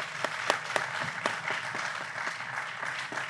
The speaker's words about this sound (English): Ladies and gentlemen, huge round of applause for our guest, Rick Wurster.